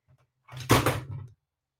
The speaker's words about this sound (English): knocked over my ring light. Can you believe that?